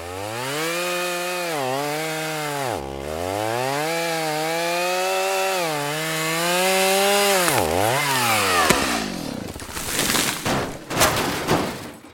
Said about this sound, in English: So in another bit of a panic, I got out my chainsaw and I felled this tree, which was near the house.